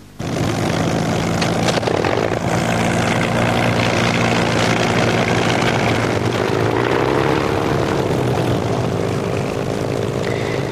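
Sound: propeller airplane engine flying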